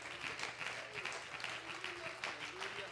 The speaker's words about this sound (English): Do you love the Lord? Clap your hands to him tonight.